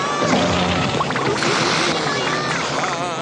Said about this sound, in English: Oh, yeah. I mean, that's like a robot fart right there. Beautiful robot farts. That's like, I feel like something you would see on like the Conan O'Brien show.